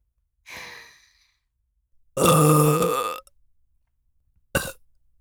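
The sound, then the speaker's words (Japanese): A loud, drawn-out burp right at the ear, preceded by a breathy exhale and followed by a short, sharp burp; very close and intimate, with no talking. “くくく、こうやってお主に密着してるとゲップがしやすくて助かるの。”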